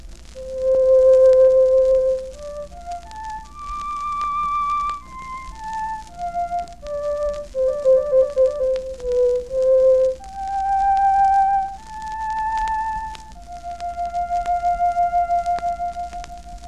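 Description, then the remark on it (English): A solo flute plays a clear, pure-toned melody of sustained notes that climb and fall in pitch, closing on a long held note with gentle vibrato over a faint low hum. “The beautiful clear tones of the flute.”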